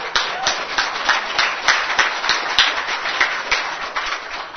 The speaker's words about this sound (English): And so let us give praise and glory to our Lord Jesus. A round of applause for the Lord of Lords.